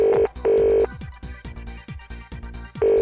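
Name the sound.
telephone dialing and ringing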